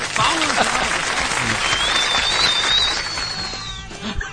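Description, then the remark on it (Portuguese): Loud, steady applause from a crowd lasts the whole time, a dense crackling clatter of many hands. A thin, high whistle rises over it midway and then fades out. “Palmas!”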